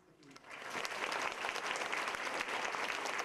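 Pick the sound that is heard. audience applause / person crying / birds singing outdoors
audience applause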